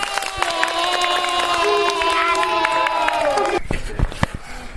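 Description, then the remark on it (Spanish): A class of young infant-school children, the Babi Amarillo class, cheers and shouts together in high, sustained voices after making a radio recording, while scattered claps pop through, the cheering breaking off near the end into a few claps and murmurs. “Un aplauso para todo el mundo.”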